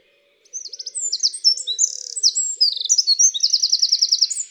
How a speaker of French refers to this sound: La voix du troglodyte est très claire. Son chant est vigoureux, rapide et très sonore pour un si petit oiseau.